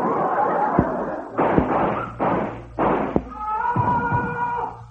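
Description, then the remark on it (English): Three or four muffled gunshots from outside a door: sharp, heavy thuds spaced unevenly over a rough, noisy background, followed by a brief higher-pitched, voice-like tone. “Somebody's been shot just outside the door.”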